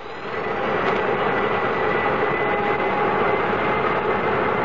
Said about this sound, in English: This is K-Flight 113 Transways, port K2 to ground control. Request permission to start engines. You have permission, Captain.